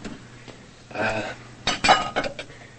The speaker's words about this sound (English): Madeline watches him carry the dishes to the sink.